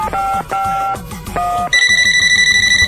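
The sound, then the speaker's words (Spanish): A call to a mobile phone: a line tone plays in repeated bursts, then shifts to a brighter, steady electronic ringing pattern with a rapid pulse. It is loud, with no voices. “Bueno, la voy a llamar al celular.”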